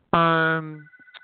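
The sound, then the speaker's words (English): A telephone in the corner of the room rings once with a loud, bright electronic tone that starts abruptly and fades, leaving a faint lingering high note and a couple of small soft noises after. “The phone is ringing.”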